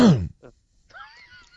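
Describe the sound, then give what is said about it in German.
A single loud throat-clearing cough bursts out at the start, followed by a brief rasp and then faint, thin vocal sounds trailing off. “Was soll ich dir einen Hustenbonbon rüberschicken”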